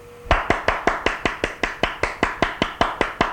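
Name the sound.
applause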